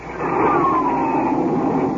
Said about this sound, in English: That's a Republic Thunderjet up on a test flight. Jets like that are pioneers of the sky, leading the way to the air age of tomorrow.